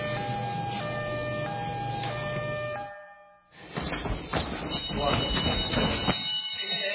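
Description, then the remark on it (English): An alarm rings loudly with steady, shifting electronic tones for about three seconds, then cuts out, followed by a burst of noisy clatter and commotion with people talking. “The alarm. We're just training.”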